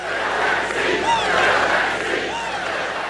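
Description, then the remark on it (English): A large crowd chants "fill that seat" in unison at a rally held by President Trump in Fayetteville, North Carolina, the night after the Supreme Court announced the death of Ruth Bader Ginsburg, a loud, steady roar of many voices with rising and falling shouted syllables carrying through the whole stretch. “Chants of fill that seat from the crowd, and a promise from the president.”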